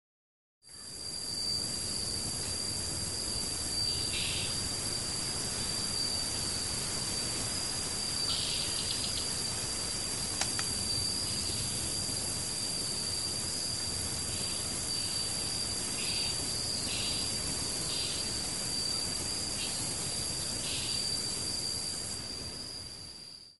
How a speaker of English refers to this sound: The following audio clip was recorded high in the mist forests on Silhouette Island in the early morning. Dr. Labisco describes the sound the frogs make as being a bit like nails being run along a comb, followed by a series of clicks.